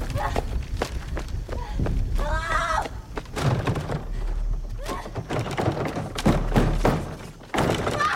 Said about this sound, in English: Bangs on double doors.